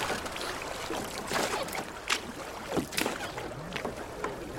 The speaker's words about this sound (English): get rowing